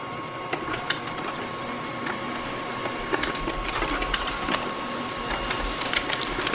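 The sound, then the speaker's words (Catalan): Several 3D printers in a 3D printing lab whir and buzz steadily, with a continuous mechanical hum broken by irregular clicks and short stepping ticks from the moving print heads; no one speaks. “Les protagonistes d'aquest laboratori són les impressores. Sentim com sonen, va.”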